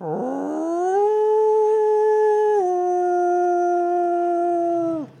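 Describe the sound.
A person imitates a wolf howl: one long, loud vocal howl that swoops upward, holds steady with a slight dip midway, then fades after about five seconds, with no other sounds.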